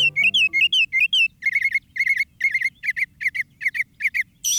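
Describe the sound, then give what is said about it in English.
A northern mockingbird sings a quick run of clear, downslurred whistles, then switches to a bright, buzzy chirp repeated about ten times in steady, evenly spaced bursts over a faint low rumble. “The northern mockingbird is a master of mimicry.”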